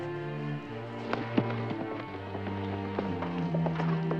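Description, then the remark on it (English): Horse hooves clip-clop in an uneven rhythm as a young messenger mounts his horse and rides away, a run of sharp knocks over a sustained tonal music bed, moderately loud. “The young messenger stows the agreement in a canister and mounts his horse.”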